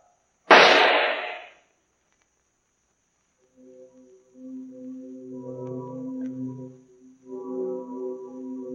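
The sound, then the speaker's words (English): A single sharp pistol shot cracks out loudly and its harsh report dies away within a second. After a pause, bells toll a requiem for Count Peter Markov in the still, wintry Moscow air, with steady low ringing tones that rise and swell without any speech. “Phantoms of a world gone by speak again the immortal tale, the pistol shot.”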